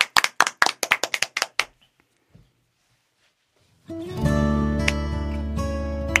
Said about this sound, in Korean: 자, 그러면 저희는 박수를 한 번.